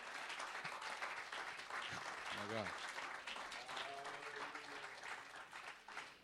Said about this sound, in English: Amen. Can we give a hand clap of praise to God that's worthy?